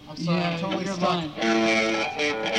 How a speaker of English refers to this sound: Turn the distortion on.